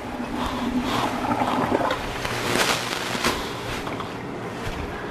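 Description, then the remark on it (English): Excess water from rice boiled about 10 minutes pours and splashes steadily through a colander for several seconds as it is strained off, a continuous rushing, draining sound, with a few louder gushes midway and no voices. “Just strain away the excess water.”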